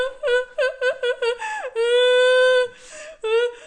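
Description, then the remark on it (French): A voice imitates crying, first with a quick series of about six rhythmic sobbing whimpers, then a long, steady wailing cry and a shorter final wail. “Elle fondit en larmes.”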